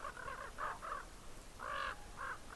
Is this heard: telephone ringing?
no